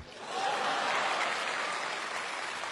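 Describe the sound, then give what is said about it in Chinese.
A burst of audience applause after a sung ditty rises quickly and holds steady, a dense, even patter of many hands clapping for nearly three seconds with no voices on top. “小妞儿哎，鼓掌吧。”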